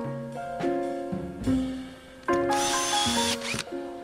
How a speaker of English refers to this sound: We use a screw gun, and sometimes we have to put the boards through the brick.